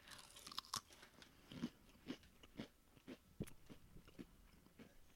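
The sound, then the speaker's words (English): Loud crunching of crispy sea urchin flavored potato chips being chewed quickly, with sharp bites and crackles repeating in an uneven rhythm and no talking. “I'm chewing very fast.”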